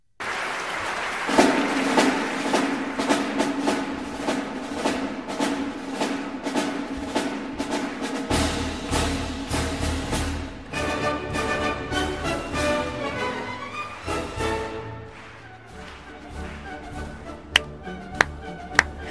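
An audience claps in steady unison to the beat of the Radetzky March, a brisk orchestral march, the sharp rhythmic claps riding over brass and strings for the whole stretch.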